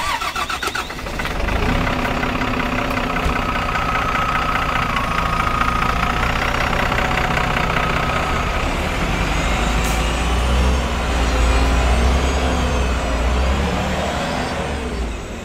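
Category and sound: vehicle, bus engine idling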